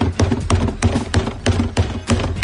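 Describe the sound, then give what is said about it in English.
Loud, hollow bangs on a trash can by a Yankees fan at Astros batting practice, about six or seven hits in quick, fairly steady succession, each a sharp clang with a ringing low thud, with no voices. “I got no reason to play that other than I just enjoy the trash can banging of a Yankees fan who's already at Astros batting practice.”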